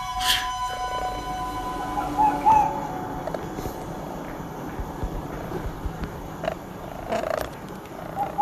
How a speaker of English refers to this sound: when they wanted more, they started pecking the phone that I was doing the recording. You can hear the pecks at the end of the recording.